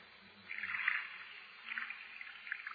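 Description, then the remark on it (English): Water is poured from a pitcher in a soft, steady trickle, swelling into a few gentle splashing surges as it runs over a hand. Fairly quiet, with no talking. “I'll pour it over my hand.”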